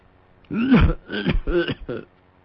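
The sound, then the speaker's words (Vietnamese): Several harsh, rasping coughs burst out in quick succession, loud, as a voice acts out the old man Hải Lão Công suddenly bending over in a choking coughing fit, then it falls quiet. “Nói tới đó đột nhiên ho sặc sụa.”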